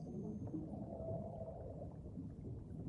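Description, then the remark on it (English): Faint, distant whale calls in the deep ocean drift through a muffled underwater rumble, a soft tonal moan rising and fading over steady low murmuring, with no voices present. “Plunging deeper, hear the distant calls of whales.”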